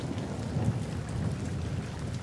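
Steady rain patters onto rock while low, continuous thunder rumbles through a stormy wash of noise, with no voices present.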